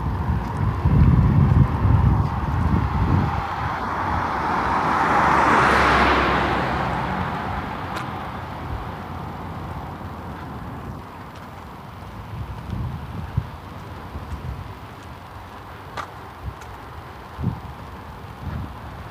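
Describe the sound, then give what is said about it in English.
A big fifth-wheel trailer rig towing a motorcycle drives past outdoors, its rumble swelling to a peak midway and then fading away, with wind buffeting the microphone throughout. “Goes the big fifth wheel with the motorcycle in tow.”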